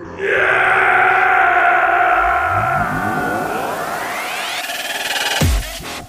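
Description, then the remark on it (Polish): A loud, eerie howling wail fills complete darkness, holding a steady, harmonic-rich tone, then a rising glide sweeps upward through it before the sound drops off abruptly near the end. No voices. “Po chwili wypełnia ją odgłos przypominający wycie.”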